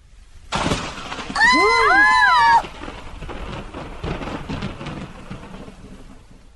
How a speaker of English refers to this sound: In the afternoon, there were black clouds in the sky. It rained.